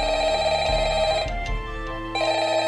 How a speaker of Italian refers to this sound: Ad un tratto il cellulare che porto in tasca, nonostante io sia completamente nudo, inizia a squillare.